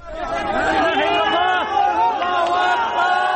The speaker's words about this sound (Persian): صدای فریادهای شادی در پی خارج کردن یک نوجوان زنده از زیر آوار در شهر جندیرس واقع در شمال غرب سوریه پس از گذشته بیش از 72 ساعت از زلزله.